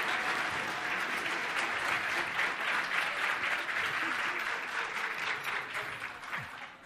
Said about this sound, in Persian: انرژی کمه، خودتونو محکم مسیحی تشویق کنین که انرژی تو محکم.